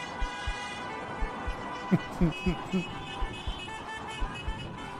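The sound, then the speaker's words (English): Several car horns honk together in a steady, overlapping blare that runs throughout, with short bursts of voices breaking through around the middle. Drivers are honking in response to a call to beep if they agree with a statement about Keir Starmer. “Beep if you agree. A lot of people agree.”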